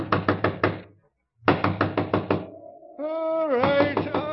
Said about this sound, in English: Next morning, March 22nd at 4 o'clock, Art Thornburg was awakened by persistent knocking at his door.